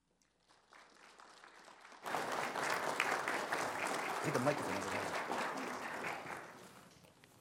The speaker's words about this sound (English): Give him a great cheer.